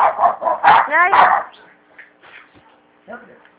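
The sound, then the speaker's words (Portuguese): A female dog barks in a rapid burst of four or five loud, high-pitched barks and yelps, then falls quiet, leaving only faint, scattered background sounds. “Ela é assim mesmo, mas ela morde não. Ela late sempre cedo.”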